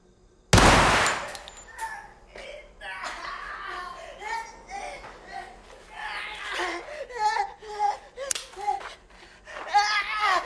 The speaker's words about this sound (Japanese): 8月14日、初めて拳銃で殺した。この匂い、花火の匂いだ。